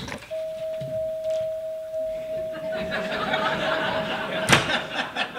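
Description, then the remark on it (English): A door opens and closes: a steady electronic chime hums for several seconds, then a single sharp thump as it shuts, with faint background voices and rustling. “walk out of this door and get in the car.”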